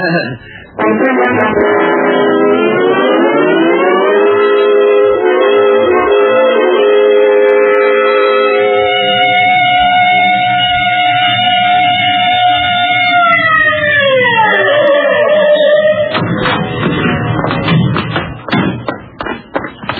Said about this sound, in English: All right, Otis, you can use the siren.